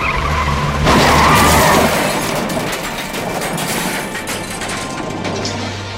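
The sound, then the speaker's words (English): Tires screech in a loud skid as a car swerves to avoid a deer in the middle of the road, followed by a burst of harsh crunching and scraping noise that gradually settles into a steady rumble. “Then from out of nowhere, there was a deer in the middle of the road. My mom swerved.”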